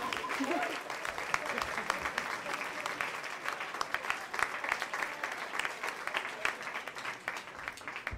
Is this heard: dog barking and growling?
no